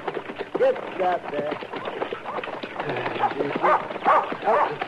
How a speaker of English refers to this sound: Get away. Get away, dog.